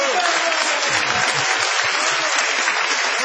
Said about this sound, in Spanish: Y ya en el punto cúlmine de la ovación se presenta Jorge Dorio.